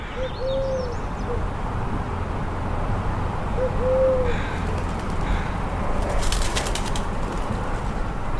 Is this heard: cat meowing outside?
no